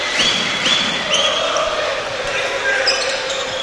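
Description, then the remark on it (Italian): A basketball being dribbled on a court by player Galloway, insistent dribbling including behind-the-back, with repeated bounces under steady arena crowd noise, a few high sneaker-like squeaks and an announcer's voice talking over it. “Sì, palleggio insistito, palleggio dorsale.”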